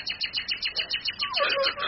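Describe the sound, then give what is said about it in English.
A bird coos and calls in a quick, steady run of short repeated notes, moderately loud, with a fuller, lower warble swelling in near the end. “You bird! That's all you know!”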